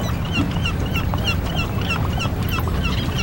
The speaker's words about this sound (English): I can sort of just hear seagulls.